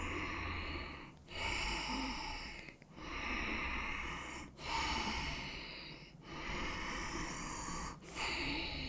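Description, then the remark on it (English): Deep, forceful breaths of a breathing exercise repeat in a steady rhythm, each long rushing inhale or exhale broken by a brief pause, fairly loud with no talking. “Now you allow your natural body movement to support your breath.”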